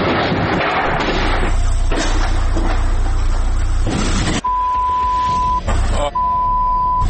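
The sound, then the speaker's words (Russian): A car engine rumbles and roars for several seconds as the car pulls out, then cuts to a quieter scene with a long, steady electronic beep sounding twice. “Там машина выезжает.”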